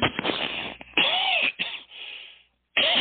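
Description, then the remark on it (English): A bout of harsh, congested sinus coughing after a cold: about four loud, raspy bursts in quick succession, with a short silent pause before the final cough. No one speaks. “This is just sinus cough I got now.”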